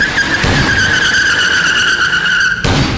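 A car peels away at full throttle from beside Los Encantos before its passenger door has been closed, its tires letting out a loud, steady high-pitched squeal over engine rumble for over two seconds before a sudden harsh burst of noise cuts in.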